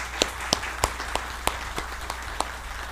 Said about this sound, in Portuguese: Agora sim, uma forte salva de palmas por vocês estarem enfrentando essa batalha.